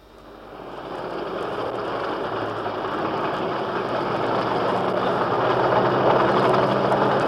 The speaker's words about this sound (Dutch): Ik sta hier op het ogenblik ongeveer 500 meter van het Duna Hotel. De tijd is 6 uur in de ochtend en het is een koude regenachtige nacht. Het lawaai dat u hier hoort is dat van een lange kolonne machtige tanks, T-34 tanks